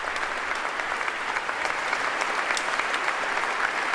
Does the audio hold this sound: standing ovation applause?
yes